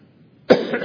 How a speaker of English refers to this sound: My cough.